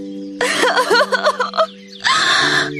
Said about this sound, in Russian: «Нет, настоящая!» — крикнула Алиса и залилась слезами.